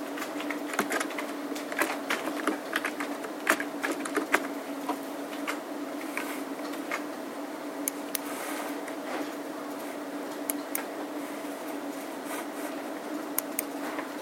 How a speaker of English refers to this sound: Try typing.